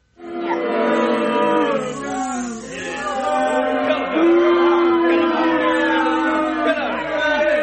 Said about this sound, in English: All right, calm down, crowd. Don't, you guys are getting a little amped up there.